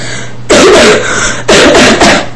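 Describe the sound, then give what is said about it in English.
Two loud, harsh coughs about a second apart, each a rough burst of breath with no talking around them, from a person who is sick. “Sorry if I cough, I'm kind of sick.”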